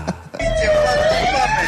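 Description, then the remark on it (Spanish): The siren of a police patrol car in Mexico, taken by a group of drunk friends, kicks in after a brief rustle, wailing loud with a steady tone that slowly climbs in pitch, over a rumbling background. “Saludando a todo el parche desde la patrulla de la policía en esa rasca y con la sirena”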